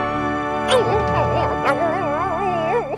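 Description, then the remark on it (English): A puppy whimpers and yips, giving a few sharp high yelps followed by a wavering, whiny cry that rises and falls continuously over a low background hum. “Don't worry, pup.”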